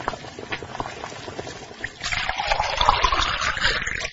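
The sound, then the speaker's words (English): Boiling water is poured onto instant noodles, starting as a thin trickle and swelling into a fuller, steady splashing stream halfway through. Fairly loud, with no talking. “When the water is boiling, add the water to the noodles.”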